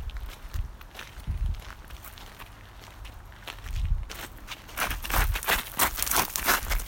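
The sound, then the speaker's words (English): Footsteps on a forest walk, a steady run of crunchy, crackling steps with soft low thuds, growing louder and busier partway through. No one speaks. “On a walk. In the forest.”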